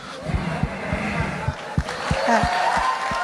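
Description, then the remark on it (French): An audience applauds, a steady wash of clapping with several sharper, louder claps standing out at an uneven rhythm, mixed with some crowd voices. “On applaudit, bravo.”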